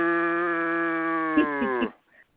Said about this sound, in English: That's a that's cow. Not a horse.